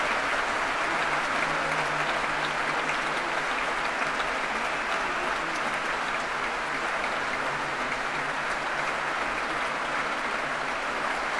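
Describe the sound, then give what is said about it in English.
Sustained applause from a large concert audience fills the space, a dense, steady wash of clapping with no break and no one speaking over it, as Donald Runnicles brings the performers back on stage for more bows. “I was just about to say they were leaving to give us our cue into our interval, but no, he wants them to soak up some more applause, and why not?”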